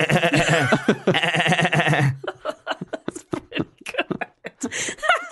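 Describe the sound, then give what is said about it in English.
A voice imitates machine gun fire with a rapid string of sharp staccato mouth bursts, right after a brief wavering, bleat-like vocal sound. “I reckon when I was a kid, I could have done a sweet machine gun noise.”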